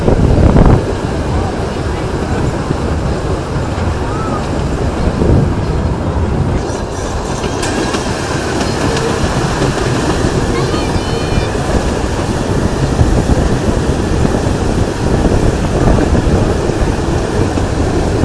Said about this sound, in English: As it is, you can just listen to the ambience of a trip on a narrow gauge steam train.